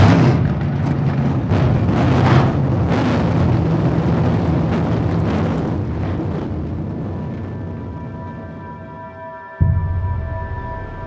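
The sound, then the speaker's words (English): A racing engine fires up and roars loudly, deep rumbling with rough revving bursts, then settles into a steadier droning hum before briefly cutting out and roaring again. “Start your engine!”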